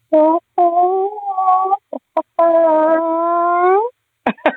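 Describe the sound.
A human voice imitates a chicken: a few loud, bright clucking calls, a long drawn-out squawk that rises slightly in pitch, then a couple of quick clipped clucks to finish.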